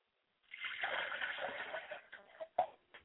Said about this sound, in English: I pour libations to the East and I say Ashe. I pour libations to the West and I say Ashe. I pour libations to the North and I say Ashe.